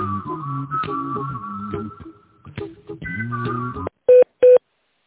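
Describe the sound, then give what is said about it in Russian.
Two short, loud telephone keypad tones beep in quick succession at the end, each a steady electronic dual-pitched blip, dialing an employee's extension number after several seconds of muffled, voice-like sound from an automated phone menu. “Пожалуйста, дождитесь ответа оператора или наберите добавочный номер сотрудника. По окончании набора нажмите решетку.”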